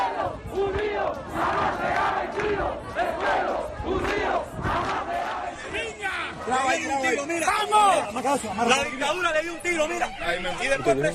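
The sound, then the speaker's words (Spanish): A large crowd of Cubans protesting against the government in the streets of Cuba shouts and chants in overlapping voices, loud and continuous, with repeated rhythmic cries of "libertad" (freedom) rising above the dense babble throughout. “Miles de cubanos de ciudades de todo el país salieron ayer a las calles para protestar contra el gobierno al grito de libertad.”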